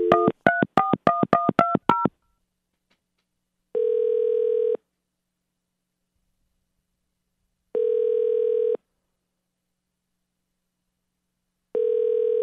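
A quick run of about ten touch-tone dialing beeps as a heating and air conditioning company phones a customer, then three steady, mid-pitched ringback tones about a second long, spaced evenly with silence between them. No one speaks.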